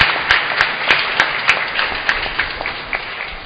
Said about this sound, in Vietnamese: Nãy giờ nói mà quên chưa cho chàng vỗ tay để chúc mừng ban truyền thông, xin mọi người chúc mừng và cảm ơn.